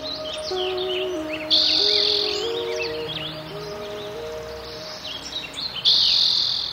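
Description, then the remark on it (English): A busy chorus of birds chirping and trilling over a steady drone of buzzing insects, with bursts of insect noise swelling louder now and then, in a wooded park with a stream at Sugarloaf, California. No one speaks. “California buckeyes and oaks, as well as insects and frogs and toads and birds, hawks and ducks, woodpeckers and hummingbirds, robins and swallows and jays and warblers and wrens and finches.”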